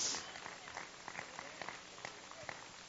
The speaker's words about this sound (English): He is with us. Give him a clap offering in this house today.